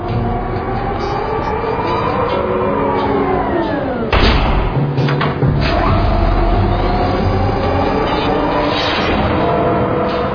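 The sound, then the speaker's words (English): An automated garbage drone, used on the estates on Bellerophon, whooshes away with the trash at the press of a button, with a loud, steady mechanical whir of layered humming tones that slide downward, then abruptly shift to a rumbling roar partway through. No one speaks. “You hit one little button and the drone whooshes off the trash.”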